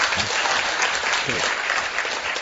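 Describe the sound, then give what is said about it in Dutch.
Loud audience applause for the municipality of Haarlemmermeer, thanking it for the reception, fills the whole stretch, a dense, steady wash of many hands clapping with no pauses, bright and noisy throughout. “En natuurlijk even een heel hard applaus voor de gemeente Haarlemmermeer en Willem voor het ontvangst.”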